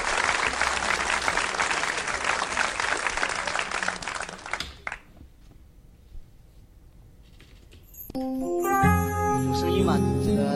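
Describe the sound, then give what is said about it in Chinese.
A crowd claps loudly and steadily for about five seconds, welcoming a performer onstage to sing a song, the applause cutting off into a quiet lull before a backing track of music starts up. “好，那么接下来我们掌声有请”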